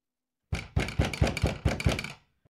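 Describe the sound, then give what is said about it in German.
A quick, steady run of about seven firm, fairly loud knocks on a door, with no talking, followed by a brief silence. “Komm nur herein, mein liebes Kind. Die Tür ist auf.”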